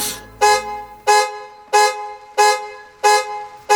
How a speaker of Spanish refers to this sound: La alarma del carro se disparó inopinadamente y los escoltas se alarmaron tanto como ellas. El conductor la desactivó con el control y abrió la puerta para ofrecer excusas.